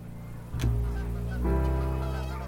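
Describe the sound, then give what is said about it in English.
Bewick's swans, also called the small swan, call with soft, goose-like honks: a sharp bugling note, then a second longer, rich harmonic honk about a second later, fairly loud with no talking. “a swan for its epic migration, or the small swan, the once populous bird is becoming increasingly rare.”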